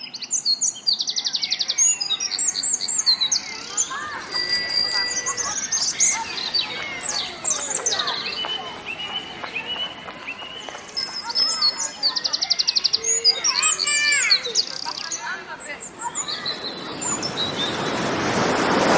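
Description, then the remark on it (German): Outdoor ambience in the English Garden park in Munich, with lively, overlapping birdsong, chirps and tweets from several birds, over a soft wash of background noise that swells toward the end. “Also diese typische Mischung aus Park, Vögeln, Biergarten, entspanntem Zusammensein.”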